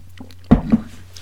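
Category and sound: food or drink, sipping coffee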